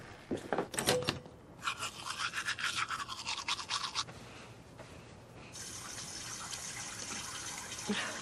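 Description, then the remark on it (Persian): Someone washes their hands and face at a running tap, with rhythmic splashing and rubbing up close, followed by a steady, even gush of water from the faucet. “میرم دست و صورتم بشم.”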